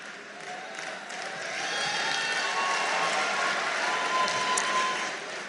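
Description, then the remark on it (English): A crowd applauds steadily, dense overlapping clapping that swells after the first second and holds at a fairly loud level, with a faint murmur of voices underneath. “You better listen before you start clapping.”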